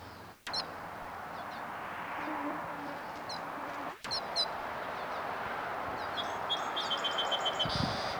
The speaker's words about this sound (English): Wild birds overhead.